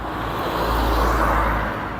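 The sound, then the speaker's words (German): Steady roar of road traffic, a broad rushing hum with low rumble that swells slightly in the middle, as cars pass by continuously; no voices. “Diesen scheiß Autos.”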